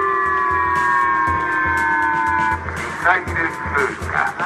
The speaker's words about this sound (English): And North Korea's launch of a missile over Japan's northern Hokkaido island set off sirens not heard in a long, long time. They're saying missile passing, missile passing.